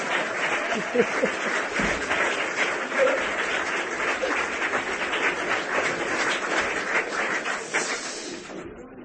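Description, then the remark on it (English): A sustained burst of audience applause, many hands clapping in a dense, steady wash of sound for several seconds before tapering off slightly at the end. “Round of applause!”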